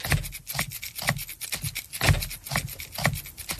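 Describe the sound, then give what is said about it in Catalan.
A pepper shaker is shaken in a steady, repeating rhythm into a microphone to be recorded onto a loop machine, giving a series of gritty, rasping rattles of moderate loudness with short gaps between them, with no voices. “Ara agafo el pebre, pujo una mica el volum del micro, i vaig a gravar el pebre a sobre, vale?”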